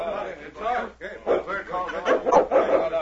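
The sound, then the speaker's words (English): A dog named King gives a quick run of short, throaty barks and yips, about six bursts in three seconds, moderately loud, with a chuckling, voice-like quality and no clear words. “See, him talk to animals. Him talk to dogs.”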